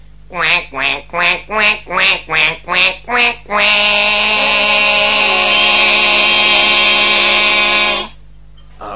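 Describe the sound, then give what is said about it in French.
A person imitates a duck, voicing seven quick, evenly spaced quacks, then holds one long, loud, nasal quack for about four seconds before stopping. “Attendez, bon, attendez, je vais mettre fin à ce que j'oserais appeler un conflit de canards.”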